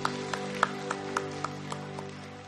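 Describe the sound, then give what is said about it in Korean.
An audience at a worship service claps together in a steady, even rhythm, about eight crisp claps over a held, low droning tone, with no one speaking. “영광의 박수 올려드립시다.”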